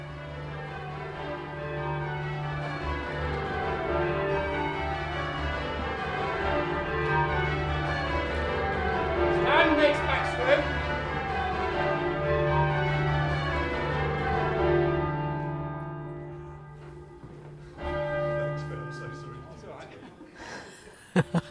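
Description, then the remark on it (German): Many church tower bells, rung by bell ringers, ring together in a dense, overlapping peal, their tones blending into a rich, continuous wash that swells and holds for about twenty seconds before thinning out near the end. “Und von all diesen Türmen hört man in diesen Tagen das Glockenspiel.”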